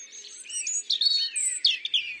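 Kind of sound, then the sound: bird, european robin song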